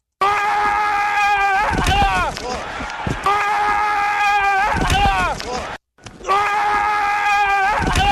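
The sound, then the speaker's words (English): An offensive football lineman lets out a loud, sustained scream during a play, followed by heavy thuds of colliding bodies; the yell-and-crash sequence repeats three times in close succession. “It's video of two plays by Quentin Nelson. And I think it's the same play with different angles. I got you. And it says, screaming helps.”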